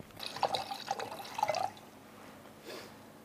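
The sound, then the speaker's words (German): Water pours into a glass at a wine tasting for about a second and a half, a bright gurgling splash with rising tone, then quiet with a faint clink or trickle afterward. “Und ich glaube, in dem Jahr habe ich kräftig Sonnenbrände gehabt und werde jetzt nochmal was einschenken.”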